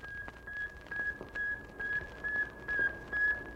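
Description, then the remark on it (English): A satellite radio signal beeping from orbit, 560 miles above the Earth, in a steady, regular pulse: about eight short high-pitched tones in quick succession over a faint bed of hiss and static. “Then the antennas shoot forth, and like the cry of a newborn babe, a tiny voice is heard from the vastness of space, 560 miles above the Earth.”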